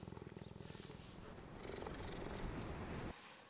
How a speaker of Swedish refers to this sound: Det är han som har spelat in den här spinnande geparden.